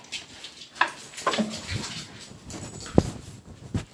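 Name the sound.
dogs whimpering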